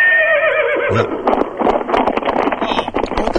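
A single horse whinny rings out loud, its wavering pitch trailing off after about a second, followed by a busy rustle of clattering, hoof-like noise.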